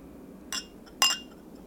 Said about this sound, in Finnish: Proosit. Maistoimme laseistamme.